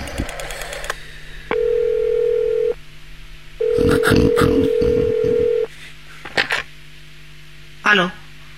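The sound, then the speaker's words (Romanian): A steady telephone dial tone, as someone makes a phone call at night, hums in two long stretches, broken by short bursts of clicking and rustling, then a couple of brief knocks and a sharp click near the end. “Trebuia să profit imediat de acest telefon, chiar în acea noapte.”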